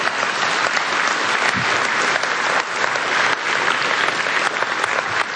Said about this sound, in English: You can go ahead and give him a round of applause.